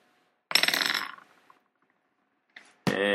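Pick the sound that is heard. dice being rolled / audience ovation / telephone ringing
dice being rolled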